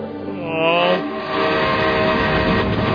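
A train roars, a sustained horn-like tone blending into a loud, steady rushing rumble of wheels and carriages that fills the whole moment, with no voices.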